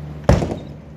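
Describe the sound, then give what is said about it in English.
An unlocked back door opens with a single sharp clunk of the latch and a brief rattle, fairly loud, followed by quiet with a faint steady hum. “Okay, well, that answers my question. Left the door unlocked.”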